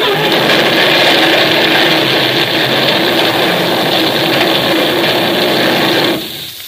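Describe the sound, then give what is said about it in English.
A runaway truck loaded with TNT, in a Dick Tracy radio drama, roars loudly and steadily: a dense, rushing engine drone with no voices. It holds at full strength for about six seconds, then drops away abruptly at the end. “My truck! She's running away! She's loaded with TNT!”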